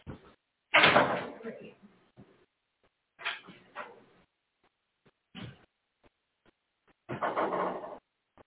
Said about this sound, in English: There's been less people, and my door is about to slam. Hang on.